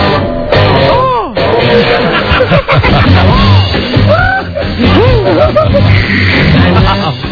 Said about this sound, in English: He screams like a girl when a loud rock lyric comes on.